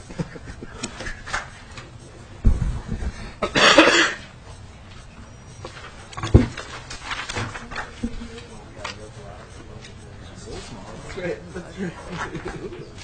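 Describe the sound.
Several harsh coughs from a person who has had a cough for about two weeks come in bursts, a sharp pair followed by a longer hacking fit and one more abrupt cough later, with throat clearing and faint voices in the background.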